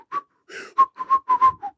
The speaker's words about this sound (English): Like, should you be that out of breath after a whistle?